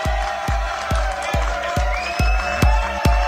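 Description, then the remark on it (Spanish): A studio audience of the show Circo Pirata claps and cheers for the segment Noticias exprimidas in a steady rhythm, about two strong beats per second, loud, with a sustained tone and crowd noise running underneath. “Bueno, vamos a aplaudir las noticias exprimidas.”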